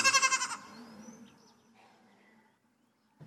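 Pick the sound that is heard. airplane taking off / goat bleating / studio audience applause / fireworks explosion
goat bleating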